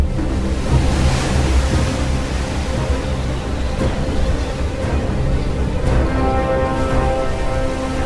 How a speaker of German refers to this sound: In der Nacht gibt es dann Sturm und Wellen so hoch wie Einfamilienhäuser.